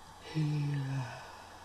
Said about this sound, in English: And he's yawning.